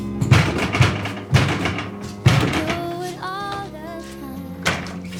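Heavy, dull knocks on a wooden front door of a home in the morning: a few thumps in the first seconds, another pair a moment later, then a single knock near the end, with soft sustained music underneath.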